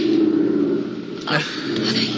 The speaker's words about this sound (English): Listen. The plane's going away.